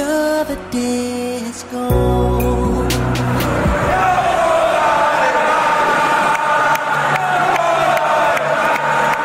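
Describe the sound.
A big crowd of football fans sings a slow, drawn-out chant together, the melody rising and falling over a loud wash of voices, after a brief tonal opening.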